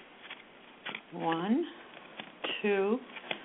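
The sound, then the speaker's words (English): Soft, scattered papery flicks and rustles of a deck of cards being shuffled before four cards are drawn, with a person making wordless voiced sounds twice over the shuffling. “Let me shuffle some cards.”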